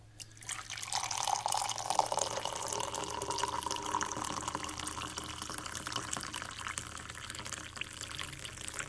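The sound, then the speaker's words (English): Replunged, double-filtered black coffee being poured into a cup in one steady, unbroken stream, a continuous splashing trickle with a hollow, resonant tone lasting around nine seconds at moderate loudness, with no talking. “There you go, that's my coffee.”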